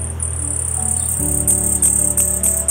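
A common hummingbird sings a thin, very high-pitched, buzzing trill that runs almost without a break, pulsing with brighter accents, over a low steady hum.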